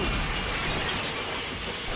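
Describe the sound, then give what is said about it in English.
China and glass shattering as Hulk smashes everything in a china shop: a loud, continuous clatter of dense crashing and tinkling fragments filling two seconds without pause, with no voices. “Hulk grabs a teapot from the shelf and starts smashing everything else.”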